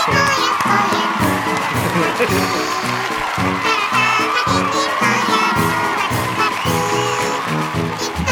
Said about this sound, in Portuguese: Palmas italiano. Como é que é palmas italiano? Aplaude. Tu bate a mão na outra com a coxinha.